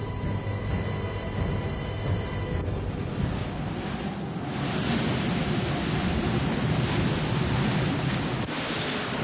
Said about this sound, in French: Bon, là, le vent rentre. Le barreau baisse bien gentiment. Et maintenant, 35 nœuds dans pas très longtemps.